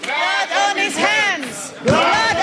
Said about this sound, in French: Des cris et des huées ont accueilli le témoignage de Cyril Ramaphosa